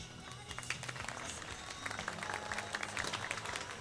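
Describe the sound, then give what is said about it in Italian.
A crowd applauds steadily at the opening of an annual rock night event, dense overlapping claps filling the whole stretch at moderate volume, with a faint murmur of voices underneath. “grazie per il sentito e spontaneo applauso.”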